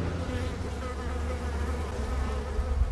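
A dense, steady drone of many commercial European honey bees buzzing around a hive in an almond orchard in the San Joaquin Valley, a continuous swarm hum with shifting tones and no speech, at moderate loudness.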